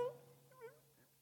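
A cat meows twice in quick succession, short rising-and-falling cries, over a steady low hum in the background.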